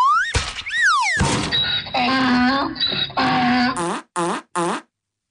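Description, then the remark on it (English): A slide whistle swoops up and down in quick glides, followed by a loud jumble of cartoonish sound effects that ends in three short, choppy bursts. “We do have the slide whistle.”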